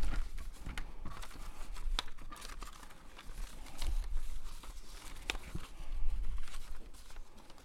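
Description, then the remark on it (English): Continuous rustling and crinkling of paper sheets being shuffled and handled while searching for the right paper, with scattered sharper crackles and soft taps, no voices present. “I'm sorry, we still got the wrong paper here.”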